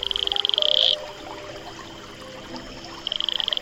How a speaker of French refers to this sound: Aujourd'hui, le crapaud Atelopus franciscus.